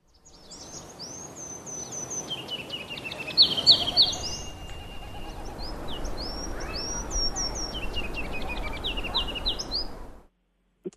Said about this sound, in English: All right, and here's the ruby crowned kinglet once more.